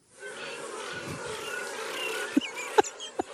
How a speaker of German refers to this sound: Es ist ein lauer Sommerabend. Die Grillen zirpen.